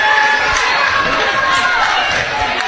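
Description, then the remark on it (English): A large basketball crowd at a game with Pisgah, late in the second quarter, roars and shouts continuously, a loud, dense wall of cheering with a few voices rising above it throughout. “Definitely took away our momentum, and it's got the crowd hops.”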